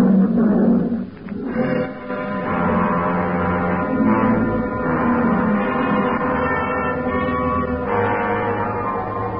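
lion roaring

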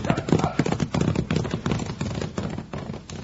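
horse hooves clip-clopping

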